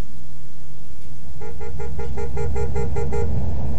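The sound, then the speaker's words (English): A driver's car horn honks in a rapid series of about eight short, insistent toots to warn another motorist driving the wrong way down a one-way street, over the steady low rumble of an idling engine. “Why is he hooting?”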